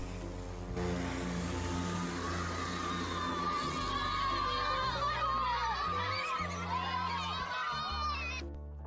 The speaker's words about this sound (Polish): Jesteśmy w Baraka w Hongo. Zobaczcie na młodych fanów lotnictwa, którzy zaraz wybiegną za samolotem.